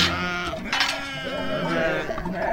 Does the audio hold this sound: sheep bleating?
yes